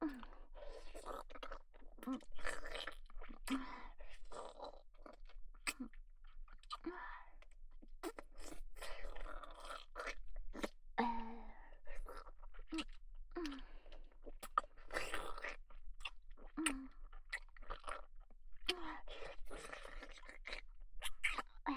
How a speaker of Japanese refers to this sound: ザーメンクリーム咀嚼されてるよ。